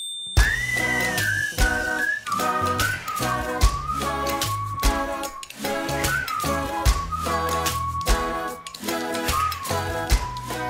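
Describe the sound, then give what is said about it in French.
Music played on kitchen utensils by members of a faith community gathered over Zoom during lockdown: steady rhythmic clanks and taps keep a beat for about ten seconds while a bright, high, whistle-like melody rises and dips over dense, layered accompaniment. No one speaks. “Alors pour continuer à faire de la musique ensemble pendant le confinement, les croyants de la communauté se sont rassemblés sur Zoom pour faire de la musique avec leurs ustensiles de cuisine.”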